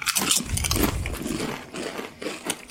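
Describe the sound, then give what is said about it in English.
Loud crunching of crispy smoky meat flavored snack chips, debuted in summer 2011, being bitten and chewed, a dense run of sharp crackly bites with a brief pause before more crunching resumes. “Crunch into this together.”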